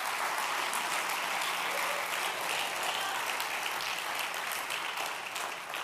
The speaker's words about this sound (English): Let's give the Lord a big round of applause this morning.